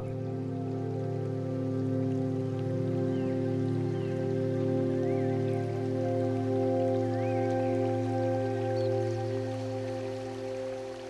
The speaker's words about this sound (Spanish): El sonido del agua fluyendo llena el ambiente.